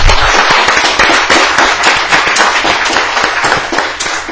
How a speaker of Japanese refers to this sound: まあ、もう一度拍手で。